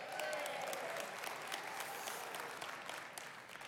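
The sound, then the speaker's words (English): Steady audience applause, a dense wash of many hands clapping at an even, sustained loudness that eases off slightly toward the end. “Don't applaud till you see later, you know, just never know.”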